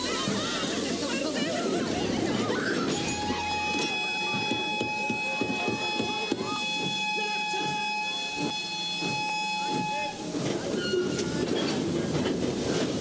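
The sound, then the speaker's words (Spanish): A freight train rolls past on the rails, carrying Jews crammed into freight cars toward the Auschwitz extermination camp during the 1942 Operation Reinhard. The train makes a continuous rumble and rhythmic clatter, while a sustained high-pitched whine rises over the middle stretch before fading back into the steady rolling noise. “Subían a los judíos en trenes, iban totalmente amontonados en vagones de carga, unos encima de otros, sin apenas espacio para respirar.”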